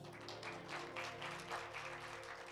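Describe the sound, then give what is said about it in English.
A large crowd claps for the Lord steadily and continuously for a few seconds, a dense wash of many hands at fairly even loudness, with a low sustained tone humming underneath and no voices. “Clap the Lord again.”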